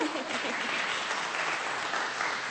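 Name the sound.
a few people clapping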